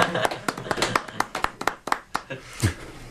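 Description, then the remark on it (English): A single person applauds themselves, clapping their hands about a dozen times in quick, slightly uneven succession, each clap sharp, with a brief low murmur near the end. “Going to applaud myself for that one.”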